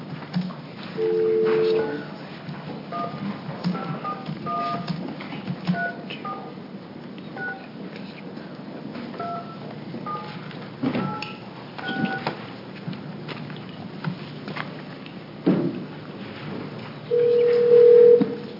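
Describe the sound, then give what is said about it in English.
A phone call being placed from a legislative hearing in Salem to reach someone for testimony: a steady dial tone, then a quick run of touch-tone keypad beeps, followed by a ringback tone near the end, heard clear over faint background noise. “So we're going to make a phone call right now and get a hold of Gordon Laffer.”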